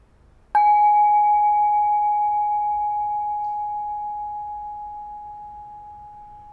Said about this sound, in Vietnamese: Thì mời mọi người mình thả lỏng, mình lắng nghe tiếng chuông.